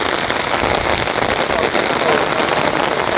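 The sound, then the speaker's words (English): Steady, heavy rain, starting to fall harder, pattering on hard surfaces, a dense continuous hiss with countless drops spattering, loud and unbroken throughout. “It's definitely starting to rain harder.”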